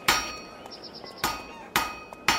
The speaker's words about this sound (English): Legend states that one day, Pythagoras was walking past a smithy's workshop, listening to the sound of the blacksmith's hammers on the anvil.